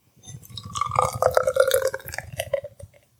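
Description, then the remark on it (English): Beer, Colors and Shapes from Riverlands, glugs out of a bottle into a glass in a gurgling, bubbly pour that swells and rises in pitch for about three seconds before trailing off. “You always nail the pour, can I just say?”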